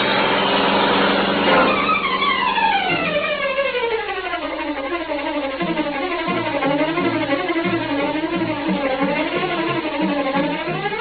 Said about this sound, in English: Once more, the powerful black car roared through the city streets, carrying the Green Hornet on his errand of justice.